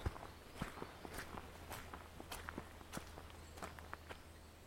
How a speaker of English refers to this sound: Can't hear a sound apart from that. So I'm just negotiating the steps.